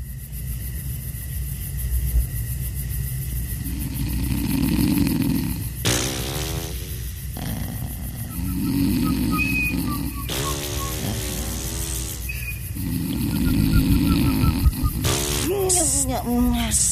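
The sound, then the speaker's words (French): Performers fake loud snoring during an improv performance, in slow, rhythmic rumbling breaths, repeated several times, with brief vocal sounds and short exclamations breaking in between the snores. “Mais non, on dort pas, on fait semblant de ronfler.”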